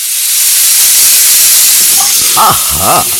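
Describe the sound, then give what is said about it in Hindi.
A pressure cooker cooking dal releases steam in a loud, steady hiss that fills the whole moment, with a couple of brief voice-like sounds rising over it near the end. “Mummy दाल बना रही है। कुकर में नहीं, हमें पूछना है कि मम्मी कढ़ाई में क्या बना रही है।”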